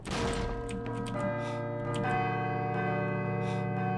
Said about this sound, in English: I should let the bell finish ringing first.